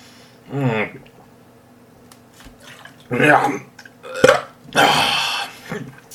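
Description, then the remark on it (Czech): Someone chokes and gags after drinking sauerkraut juice, letting out a series of harsh, throaty, burp-like heaves with rough cough bursts in between, loud, with short pauses between each spasm. “No, jsem se zakucka.”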